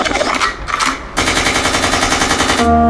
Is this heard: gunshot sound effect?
yes